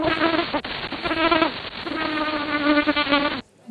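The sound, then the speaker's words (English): A loud, high-pitched bee buzz-pollination buzz, made while collecting pollen from flowers, sustained and slightly wavering with a couple of brief dips, then cutting off abruptly after a few seconds. “It's way more powerful than my regular flying buzz. I use it when I'm out collecting pollen from flowers.”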